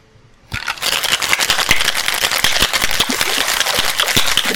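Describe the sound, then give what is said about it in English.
A cocktail shaker tin holding all of a cocktail's ingredients and ice is shaken hard and steadily for about four seconds, its ice rattling in a loud, dense, rapid clatter that begins abruptly after a brief silence and never pauses. “All right, everything in your shaker.”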